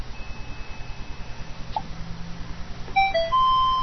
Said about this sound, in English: Hardware ESC 1200 series. And you're getting the XP sound for installing hardware.